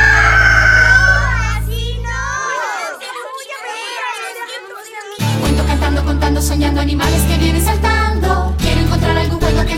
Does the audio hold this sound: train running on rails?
no